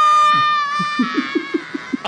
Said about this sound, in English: It's so funny to hear Macaulay Culkin scream while falling off that cliff.